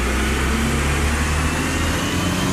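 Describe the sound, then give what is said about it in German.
A garbage truck's heavy engine rumbles steadily, a low droning hum with a broad mechanical wash over it. The noise holds loud and constant for a few seconds, with no voices. “Das ist ein Müllwagen und wenn es blöd läuft, ist er weg und die Biotonne bleibt stehen und zwar noch voll.”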